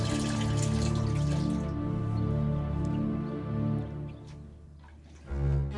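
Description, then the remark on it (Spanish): Hot water is poured steadily from a bucket into a bathtub for several seconds, a continuous splashing rush that thins out, then swells briefly with a deeper gush at the end. No voices. “Con delicadeza, vació el agua dentro de la tina y colocó una toalla limpia sobre un perchero.”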